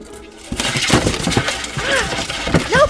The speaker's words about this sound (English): Did you hear that little creak?